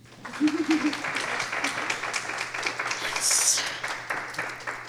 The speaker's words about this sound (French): On peut les applaudir.